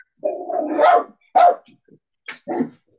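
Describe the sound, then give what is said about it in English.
A little chihuahua, the speaker's pet dog, yaps and barks: one drawn-out, whiny bark followed by several short, sharp yips at uneven intervals, with no talking. “I've got a little chihuahua called Fudge.”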